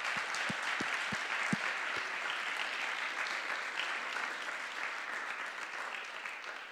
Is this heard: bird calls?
no